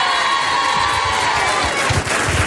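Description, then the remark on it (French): A large crowd of female fans of a singer screams and cheers continuously, a dense, loud wall of high-pitched shrieks and roaring voices with occasional low thumps beneath, sustained throughout. “Et aujourd'hui, je sais qu'elles vont pousser des cris”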